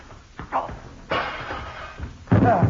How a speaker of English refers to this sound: Oh, dear, I'm afraid he broke the glass of the French doors when he fell through them.